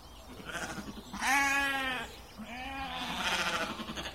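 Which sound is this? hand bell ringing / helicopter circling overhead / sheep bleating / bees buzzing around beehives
sheep bleating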